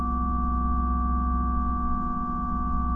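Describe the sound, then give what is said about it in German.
A clean, undistorted synth bass holds a steady, sustained low note throughout, full and evenly loud with a few faint higher overtones, with no voices present. “Und dann ist die eine Bassfigur mit der Verzerrung raus.”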